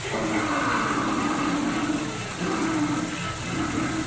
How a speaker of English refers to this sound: Off in the distance comes the fierce roar of an African lion.